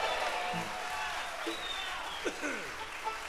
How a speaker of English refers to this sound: A nice round of applause, if you would,